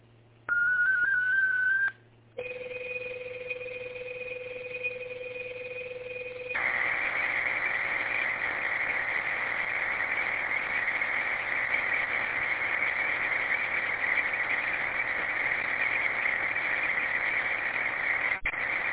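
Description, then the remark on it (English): Radio digital data transmission of a short text message sent over a radio net: a steady whistle-like tone, then a brief gap and two held pitches, giving way to a long, loud, hissy warble of data that runs steadily to the end. “All right, I do have a digital message.”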